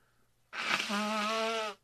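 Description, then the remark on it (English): A single loud nose blow by a sick person on a show, picked up by the microphone: a breathy rush of air that turns into a steady, honking buzz lasting about a second before cutting off. No one speaks. “But I'm still sick, so I'm going to blow my nose on the show again.”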